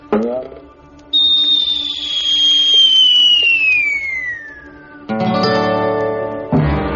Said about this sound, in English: So he quickly took his whistling arrow, fitted it into his bow, and before anybody could stop him, he shot it high into the air toward the camp of his men.